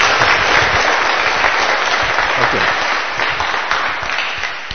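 A sustained burst of audience applause, dense and steady clapping from many hands at a fairly loud level, tapering slightly toward the end with no voices standing out.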